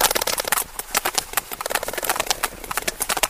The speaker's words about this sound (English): Professor Whitehead records the whales' vocalizations, which vary depending on where they live and what they're doing. What we're hearing is a large number of sperm whales clicking.